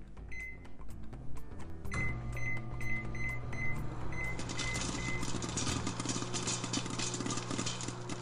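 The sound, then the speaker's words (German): A microwave oven starts with a few short beeps and settles into a steady hum, then a package of popcorn begins popping inside, a dense crackle of quick pops building over the drone. No one speaks. “Die Popcorn werden zubereitet und die ersten fluffigen Popcornstücke springen schon herum.”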